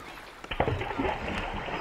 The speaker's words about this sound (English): which is I dropped a rock in my fish pond and then slowed it down.